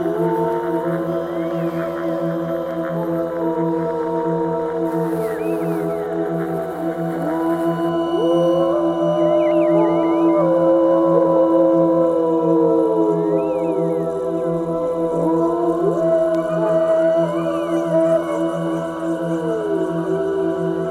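A wolf pack howls together, many long wavering voices rising and falling over one another in a steady, dense chorus that swells, then dwindles to some short barks, with no talking.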